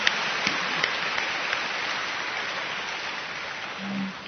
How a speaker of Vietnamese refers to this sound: Vậy thì chúng ta cảm ơn mấy em và chúng ta vỗ một tràng pháo tay để chúc mừng các em, nhất là em hát bài đáp ca rất hay.